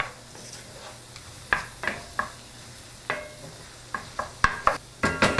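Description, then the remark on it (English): Onions sizzle steadily in a pan with the heat turned back up, softening before meat is added, while a utensil scrapes and stirs them in a string of sharp, irregular strokes, the scraping growing quicker toward the end. No one speaks. “Turn my onions back up again.”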